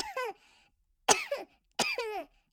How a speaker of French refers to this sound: Il faut aussi tousser dans son coude.